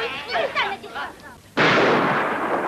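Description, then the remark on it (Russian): A voice shouts briefly, then a sudden, loud blast of gunfire erupts in a film scene and roars on continuously, a dense, harsh barrage that fills the rest of the moment. “Что касается Фигана, то ему удается уйти из-под выстрелов живым.”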